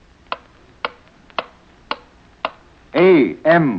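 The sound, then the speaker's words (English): A clock ticks steadily, five crisp, evenly spaced ticks, before a voice starts speaking at the end. “With each ticking second, the history of the world is being rewritten.”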